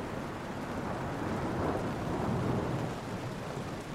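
Heavy rain pours in a steady, dense hiss while a deep rumble of thunder swells up in the middle and slowly fades, with no voices.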